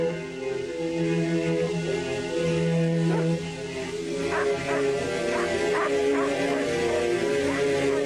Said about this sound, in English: Hearing the distant barking, he gets to his feet.